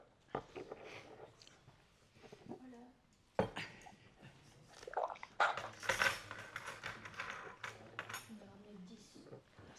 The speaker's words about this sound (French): On est là, on est avec toi, mais on sert le café, c'est pour ça. On trinque avec toi, à la tienne.